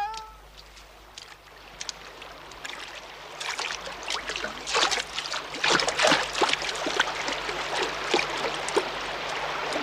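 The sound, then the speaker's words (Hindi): Water trickling and burbling steadily, with small splashy bursts that grow busier and a bit louder after the first few seconds, and no one speaks. “चतरन ऐसे पानी में देखो उतरते नहीं।”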